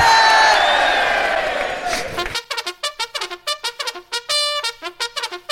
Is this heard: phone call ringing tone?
no